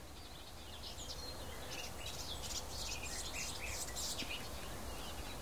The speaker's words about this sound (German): Auf der rechten Seite von mir aus sowas plapperndes, zwitscherndes, palaverndes. Ja, die Palaver-Grasmücke könnte man auch sagen, ist die Gartengrasmücke.